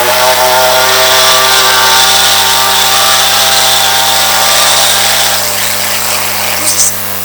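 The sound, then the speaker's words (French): A motorcycle approaching a village drones loudly and steadily, a buzzing, harmonic whine that holds an even pitch for several seconds before easing slightly at the end. “Ce jour-là donc, la moto approchait du village de l'oncle d'Emma.”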